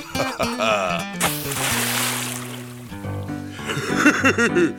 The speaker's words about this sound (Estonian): Läksin vist hoogu ja kukkusin vette , enam õnge ei saanudki kätte , sai plehku kala ülisuur .